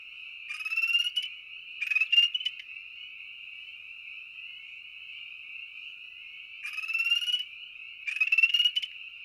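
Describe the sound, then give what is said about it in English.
Two male spring peepers trade aggression calls, rapid, buzzy trills in back-and-forth pairs, the bursts coming twice near the start and twice near the end over a steady, high-pitched peeping drone. “Here are two males trading aggression calls.”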